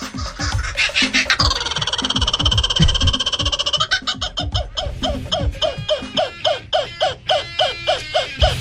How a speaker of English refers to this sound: That bird was amazing. We had him in here from the walkabout way, now open at Busch Gardens. What was it? Did that bird have a name? His name was Quigley.